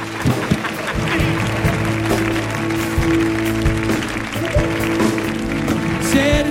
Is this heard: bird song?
no